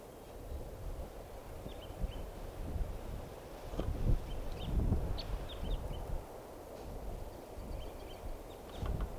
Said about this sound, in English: Type 3 crossbill here.